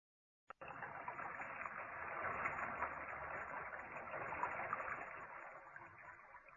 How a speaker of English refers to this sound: It is wet in the shower. 開著花灑就好似落雨咁。